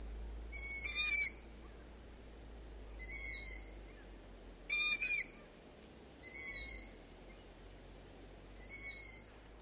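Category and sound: bird, long-eared owl hooting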